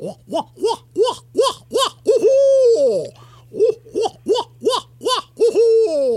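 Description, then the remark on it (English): A barred owl's excited, monkey-like calling: a rapid run of loud, rising-and-falling hoots broken by drawn-out wavering cries, clear over a faint steady hum. “And when they're really excited, they make a lot of monkey call. To me, it sounds like a bunch of monkeys.”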